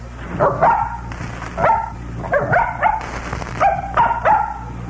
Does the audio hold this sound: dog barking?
yes